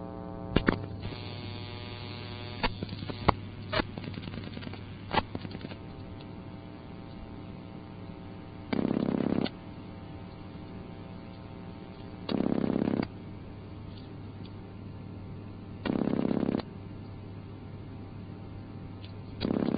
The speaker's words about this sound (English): You can only hear a step switch cutting in on this system after you dial the first digit of the three-digit number. The last two digits are in a different type of switch called a connector, which works a little bit differently.